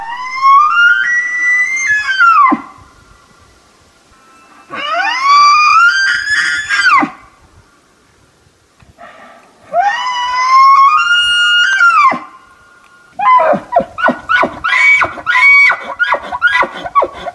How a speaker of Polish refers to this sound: No to sprawdźmy, jaki odgłos wydaje jeleń wapiti, jedna ze zwierzęcych wizytówek Ameryki Północnej, ale występujący też na innych kontynentach.